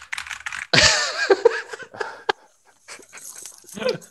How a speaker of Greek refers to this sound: Και πληκτρολογεί κιόλας.